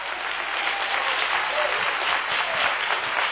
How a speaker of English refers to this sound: I think that deserves a rousing hand clap tonight of appreciation that He became our Passover.